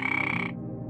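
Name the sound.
frog croaking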